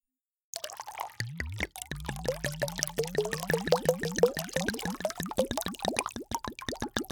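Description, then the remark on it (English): Wine glugs from a bottle into a big glass in a quick, steady rhythm of bubbly pulses, continuing for several seconds with no voices. “I'm going to pour myself a big glass of wine and change out of these work clothes.”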